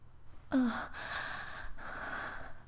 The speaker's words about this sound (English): And you know that because you can tell by my gasping. And my barely stifled moans, that I need you.